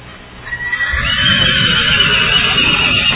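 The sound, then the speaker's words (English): A horse whinnies loudly and at length, a high shrill neigh rising over a low, rumbling background, with no one speaking. “Oh, yes, those horses are trying to keep their best to keep me on track.”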